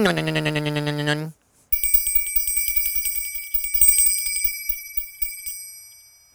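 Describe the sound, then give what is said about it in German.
A bright, tinkling small bell rings steadily for several seconds with rapid repeated strikes, loud, after a short humming tone at the start. “Die Glockenblume bimmelt.”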